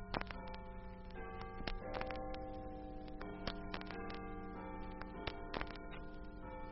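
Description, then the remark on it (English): A clock chimes twelve o'clock, midnight, its strokes falling one after another in a steady rhythm, each ringing tone lingering and overlapping the next. The chimes are fairly loud, with no voices. “Listen. 12 o'clock. Midnight.”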